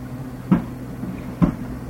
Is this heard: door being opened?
yes